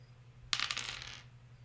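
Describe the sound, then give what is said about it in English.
Percentile (d100) dice clatter across a hard tabletop during a treasure roll in a tabletop role-playing game, a sharp first hit followed by a quick burst of rattling bounces that settles within about a second, over a faint low hum. “Go ahead and give me a D100.”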